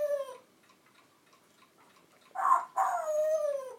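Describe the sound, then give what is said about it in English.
A female pet parrot at home mimics a dog's bark: a brief tonal call, a short quiet pause, then two loud, raspy bark-like bursts, the second drawn out and sliding down in pitch. “She's doing a dog bark noise. Funny parrot.”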